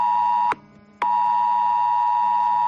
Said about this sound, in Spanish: Ha sido la primera vez que se ha activado este aviso de protección civil en la provincia de Almería. Miles de personas escuchaban a la vez este pitido prolongado durante un minuto, seguido del mensaje de advertencia.